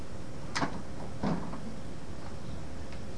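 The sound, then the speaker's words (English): A refrigerator door is pulled open, with a soft click and then a muffled thump a moment later, over a steady low hum. “Here's the refrigerator. I'm going to open it now.”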